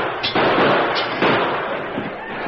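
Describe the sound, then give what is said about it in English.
Several sharp gunshot bangs ring out amid a dense, sustained crashing and clattering noise as a gun is fired at a large chandelier in a cafe and it crashes to the floor. Loud, with no voices present. “He took deliberate aim at the large chandelier that hung in the center of the cafe. He fired and it crashed to the floor.”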